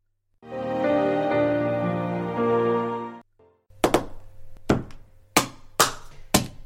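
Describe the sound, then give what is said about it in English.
Headphones being smashed to bits: after a steady, buzzing tonal sound of about three seconds and a brief pause, six sharp, hard cracking blows land in an uneven rhythm, with no talking. “why are you smashing your headphones to bits?”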